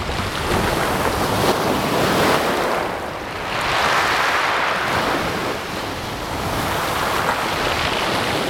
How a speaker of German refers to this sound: wenn man sich jetzt mal so diese Brandung, diesen Wellengang am Strand anhört, dann klingt der so.